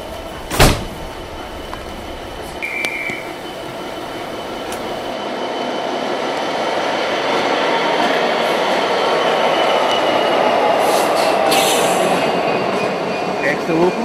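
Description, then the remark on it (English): A passenger train on its way from Bowness to Manual rolls steadily along the rails with a continuous broad rumble and rattle, opening with a sharp clunk and a brief high wheel squeal, the noise swelling slightly as it gathers pace. “Some of them spoke of their reason for travelling as the train made its way from Bowness to Manual.”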